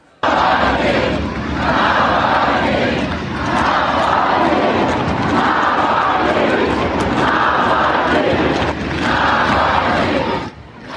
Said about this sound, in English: But mostly, they just chanted Navalny's name over and over, as in this footage posted by Navalny allies from a rooftop overlooking the crowds.